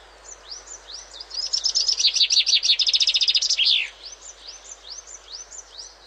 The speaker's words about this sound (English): the peaceful sound of British bird song. In this case, yep, the chaffinch.